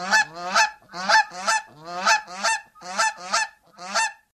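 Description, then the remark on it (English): Geese honk loudly, about nine harsh, nasal calls in quick pairs over a few seconds, with short pauses between bursts and no talking. “He winced as the one goose kicked off his injured chest and went shooting across the room, ramming into the metal door with an almighty shuddering clank.”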